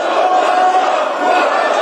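Members of South Korea's parliament scream and shout all at once at the podium during a session that ended by impeaching acting president Han Duck-soo, a loud, unbroken roar of many overlapping voices with no single speaker standing out.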